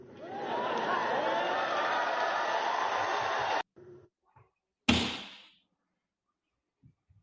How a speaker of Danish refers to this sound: Jeg ved ikke, hvad det var for et skud, der lød her til sidst.